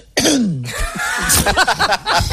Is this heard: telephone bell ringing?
no